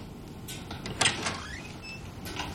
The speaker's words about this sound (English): She pauses at the door, then opens it slowly.